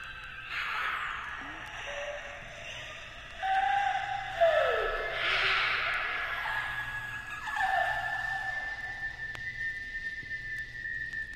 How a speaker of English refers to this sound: Wheeze and whistle.